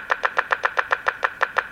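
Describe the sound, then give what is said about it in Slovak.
A rapid, steady mechanical clattering from a computer loading a text editor file from a card while also creating a backup of the file, about a dozen evenly spaced clicks in under two seconds, moderately loud with no voices. “To je načítavanie z karty, áno? Áno. Toto klopotanie?”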